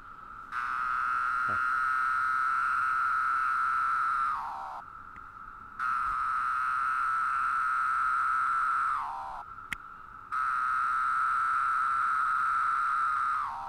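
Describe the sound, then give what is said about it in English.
A male cicada, placed on a man's shirt and incited to call by an imitated female wing flick, calls in three long, steady buzzing bursts of a few seconds each, a loud high whine that drops in pitch and fades at the end of each burst, with short pauses between. “Soon the cicada pipes up and Cooley lets him take over.”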